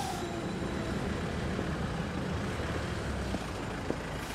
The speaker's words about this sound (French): Devant nous, il y a le musée de Cluny, de l'autre côté du boulevard Saint-Gervais. On va traverser au milieu des voitures.